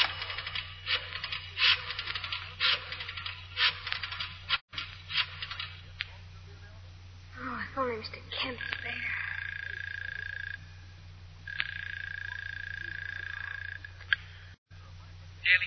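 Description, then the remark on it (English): A coin clinks into a pay phone in a telephone booth at a railroad station, followed by a brief flurry of clicks as a number is dialed, then a steady electronic tone sounds in two long bursts over a low background hum. “then inserts a coin in the phone slot, dials a number.”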